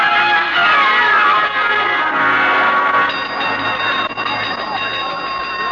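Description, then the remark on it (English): A loud, continuous metallic ringing of a fire-drill gong, its bright overlapping tones sustained without pause for several seconds and steadying into a harsher, even clang partway through. “Boynton, what made you ring the gong for a fire drill?”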